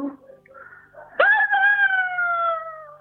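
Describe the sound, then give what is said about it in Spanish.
A woman's eerie wailing cry rises suddenly after faint murmuring, then holds as one long, loud, mournful note that slowly sinks in pitch: the lament of La Penante de Morillo, a legendary ghostly woman. “Y su llanto da la vuelta al pueblo siempre, como el viento sonda por la vida en las fiestas patronales, cuando se enciende nuevamente el día.”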